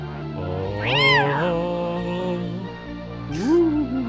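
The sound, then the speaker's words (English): A cat meows twice, loud: a long, drawn-out wail rising and falling, then a shorter meow a couple of seconds later, over a steady low background hum. “Meow.”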